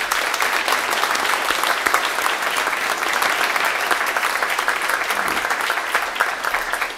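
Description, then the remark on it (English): Steady audience applause for the clergy, deacons and priests, at a ceremony, many hands clapping in a dense, even wash of sound that holds at a fairly loud level for several seconds without any voices. “Let's give our clergy a nice round of applause.”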